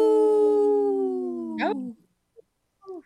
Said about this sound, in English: This portion of the show is supported by Howling for Wolves, protecting wolves for future generations. Oh. Howl!